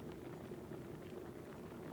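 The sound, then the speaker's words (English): A kettle rumbles as water heats toward a boil for making tea, a steady, low, bubbling roar that holds evenly throughout. It's fairly quiet, with no voices. “Oh, that'll be the hot water.”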